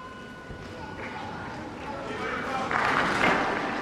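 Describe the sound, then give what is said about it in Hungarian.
A large crowd at Pope Francis's general audience, the last of the year, applauds to thank him for his teaching and blessing, a dense, steady crackle of many hands clapping, swelling louder toward the end. “A mai napon is tapsal köszönik meg Ferenc pápa tanítását, áldását.”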